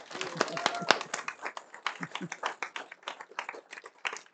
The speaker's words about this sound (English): I'd like the church family to give them a round of applause.